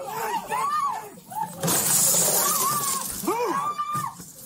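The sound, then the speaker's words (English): A door is smashed in during a police breach with a loud, splintering crash that rings on for about two seconds, while several voices shout urgently before and after the impact. “I was about to say, did they hit the door or did he hit the door?”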